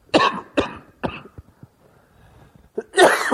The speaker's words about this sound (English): I'm going to cough a little bit during this sermon, so please forgive me in advance. I'll try to cover the microphone when I do that.